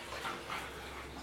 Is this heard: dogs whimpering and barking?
yes